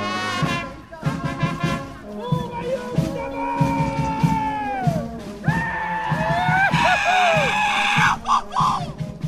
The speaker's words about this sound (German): in diesem Monat erklang wieder Gejuchze und Blasmusik in dem kleinen Temescher Dorf nahe der serbischen und ungarischen Grenze des Banats.